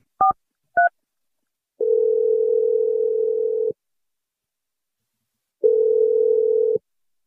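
Two quick keypad beeps as a radio show dials a phone number, then a steady, loud ringback tone that sounds for about two seconds, stops, and rings again after a pause. No one speaks.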